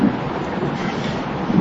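Steady, dense rainfall hisses across the whole stretch, with a deep rumble of thunder swelling underneath at the start and again near the end. No voices.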